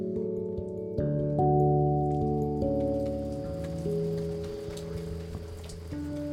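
Steady rain patters and hisses throughout as someone makes their way over to a friend's place, its fine droplets heard beneath a layer of sustained, shifting tonal notes, with no one speaking.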